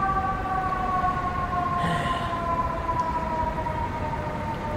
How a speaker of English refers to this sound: Just as the siren started.